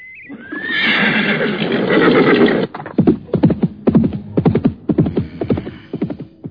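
A horse lets out a loud, drawn-out whinny, then a quick, uneven series of sharp beats follows, like hooves clip-clopping. No one speaks.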